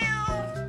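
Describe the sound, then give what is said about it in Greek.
A single drawn-out cat meow, fairly loud, with a wavering tonal pitch that bends downward partway through, heard on its own without any talking. “Εδώ είμαστε με νιαουρίσματα και γαυγίσματα συγκατοίκων που τους καλοπιάνουμε και τους ευχαριστούμε για όσα μας προσφέρουν.”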